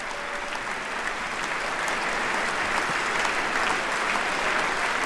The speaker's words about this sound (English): The president facing a chamber, all on their feet, all applauding the commander-in-chief.